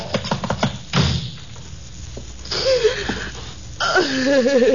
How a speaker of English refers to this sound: Who's a knocking at my door? Who's a knocking at my door? Who's a knocking at my door?